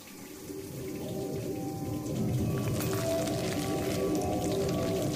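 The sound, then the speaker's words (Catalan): Water from the sewer is loudly sucked in by turbines running in reverse, in a continuous, churning rush with a low droning hum beneath, swelling stronger about two seconds in and holding steady. “Ara no expulsa l'energia resultant de la desintegració del canvi del plutoni, sinó que succiona tota l'aigua que hi ha al clavegueram.”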